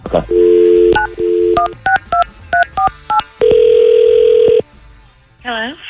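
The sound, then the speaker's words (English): A steady dial tone gives way to a quick series of about nine short touch-tone beeps at different pitches, then a long ringback tone and a faint click, all loud with no talking, as the Camel Country 107.9 morning show places a call. “Let's call her.”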